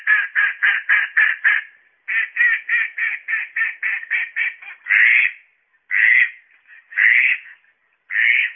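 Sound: mallard duck quacking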